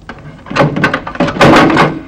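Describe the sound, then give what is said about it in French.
A door is pushed shut with a couple of heavy knocks and rattling thuds, fairly loud, ending in a solid clunk as it closes. “Fermez la porte.”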